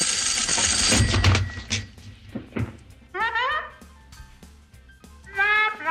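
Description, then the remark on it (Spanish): An old telephone bell rings briefly, then after a few knocks two loud, squeaky bulb-horn honks answer the telephone call, spaced a couple of seconds apart. “Así contestaba al teléfono en la película Sopa de Gansos.”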